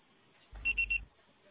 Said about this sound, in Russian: Пожалуйста, попробуйте перезвонить позднее или оставьте сообщение после звукового сигнала.